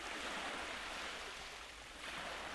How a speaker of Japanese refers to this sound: 海の音に包まれて、波の音に誘われ、静かに、ゆっくりと、夢の世界へ。